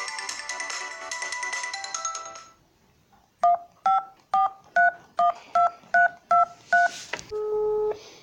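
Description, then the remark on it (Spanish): A mobile phone being switched on plays a bright tonal jingle for about two seconds, then eight short, evenly spaced dialing beeps follow, ending in a longer sustained tone. No one speaks. “Esperemos que ande porque no tengo el celu del nene.”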